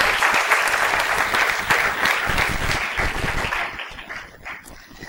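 An audience at a meeting applauds steadily as a good wish to an ill member, a dense wash of many hands clapping at once, holding strong for several seconds before thinning and fading toward the end.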